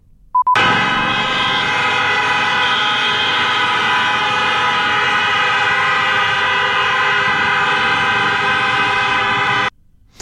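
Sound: car horns honking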